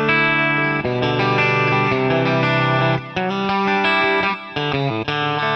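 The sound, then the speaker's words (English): A guitar rings out through a loose, washy delay effect, with chords sustaining and smearing into one another at a steady, fairly loud level, playing alone with no voices. “And then, of course, in my third one, I have like a real pretty kind of delay thing that's real loose, so I can...”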